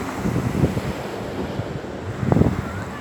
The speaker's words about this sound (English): And in this gentle meditation today, as you hear the sound of the waves, I want you to visualize each wave that's hitting the shore, bringing in abundant, magical, and peaceful energy into your life.